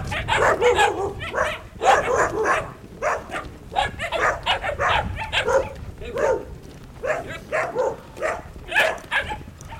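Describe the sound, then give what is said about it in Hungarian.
Several dogs bark repeatedly in a steady, overlapping chorus, with occasional yips and whimpers, heard from a moderate distance against a low background rumble. “Itt a csirke szagot érzek, lehet az valami baromfi telep, és annak a kutyái ugatnak.”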